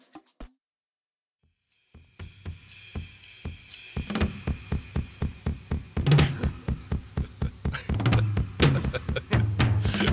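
A drum solo pounds away in a fast, steady stream of hits, deep kick thumps under sharp snare and tom strikes, growing louder and busier with crashing cymbal accents.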